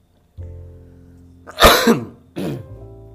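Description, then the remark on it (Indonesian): A loud cough bursts out, followed by a second shorter cough and some throat clearing, over a low steady hum with no talking. “Sorry teman-teman, gue batuk bukan gue covid ya.”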